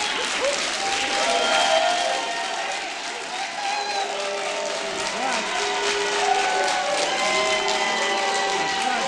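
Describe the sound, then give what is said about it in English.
An audience at a meeting applauds steadily for several seconds, a dense, loud wash of clapping with scattered shouts and voices rising above it throughout. “We need to conduct a meeting here, so if you could just hold your applause till you leave, that would be fine.”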